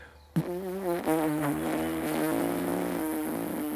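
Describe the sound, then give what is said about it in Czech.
A person makes a sustained, high-pitched buzzing by vibrating the tips of narrowly pressed lips, imitating a bee, as a lip exercise for higher trumpet tones or didgeridoo overtones, starting abruptly and holding a steady wavering tone, moderately loud with no talking. “To je včelička, vysoký.”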